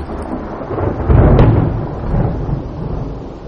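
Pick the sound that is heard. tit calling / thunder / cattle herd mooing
thunder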